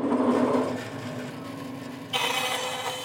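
A bandsaw hums steadily with a low mechanical drone, then a louder, brighter rasp kicks in as the blade bites into a coloured wooden plank and keeps cutting, as a master luthier slices carefully through it in a small prison workshop at Opera Prison on the outskirts of Milan, Italy.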